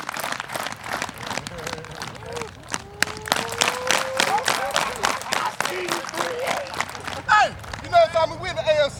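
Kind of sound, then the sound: crowd, hand clapping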